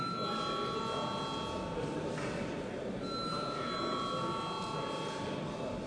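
parliamentary session bell ringing

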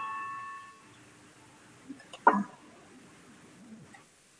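parliament voting bell ringing

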